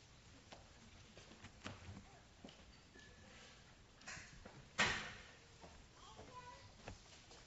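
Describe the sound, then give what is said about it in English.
A center chair is shifted across a floor before a Bible reading, with a few soft knocks and thuds and one louder scrape near the end. “might I prevail upon you to move that center chair?”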